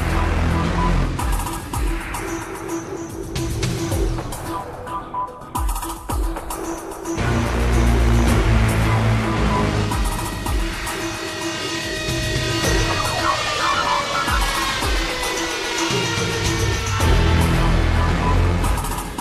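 A synthesizer theme for the monster Baragon from a Godzilla film score, loud and dense, with wailing, siren-like tones and a heavy low rumble that shifts midway, lacking a clear melody and with no voices.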